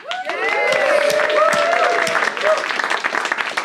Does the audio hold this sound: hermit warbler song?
no